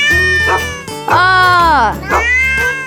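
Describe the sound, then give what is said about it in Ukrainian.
A small fluffy cat, running from a big dog, meows loudly, three drawn-out, wavering meows in quick succession, the middle one longest with a rising then falling pitch, over a low steady hum. “Слідом за невеличким пухнастим котиком біг здоровенний пес.”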